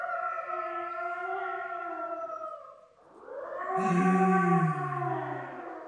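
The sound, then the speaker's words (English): Several wolves howl together in long, overlapping wails that waver and glide in pitch, dip briefly, then swell again louder and fuller, with no voices present. “You hear them, Mr. Harker? The wolves? The children of the night.”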